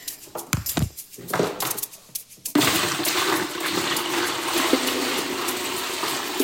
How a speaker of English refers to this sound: I'm standing in my master bathroom shower. I've got several buckets of rainwater. It takes about 2 gallons to flush a toilet, and we go ahead and put it into the tank behind the toilet. So here you go.